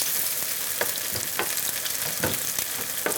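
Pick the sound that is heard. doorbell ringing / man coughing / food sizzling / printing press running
food sizzling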